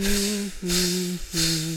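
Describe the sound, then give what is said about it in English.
Air hisses out of a holed inflatable floating fish in three bursts of about half a second each, a breathy rush carrying a steady low whine, separated by brief pauses. “It got a hole, the air came out.”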